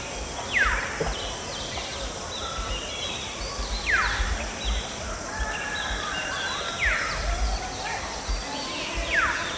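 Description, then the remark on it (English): Contact calls of a female fulvous-breasted woodpecker calling naturally in a tall tree in riverine forest: about four sharp, high, downward-sweeping notes spaced a few seconds apart, over a steady hiss of forest background with no talking. “Contact calls a female fulvous-breasted woodpecker flew into a tall tree on in this riverine forest dike, calling naturally.”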